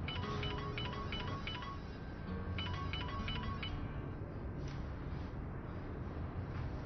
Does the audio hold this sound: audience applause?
no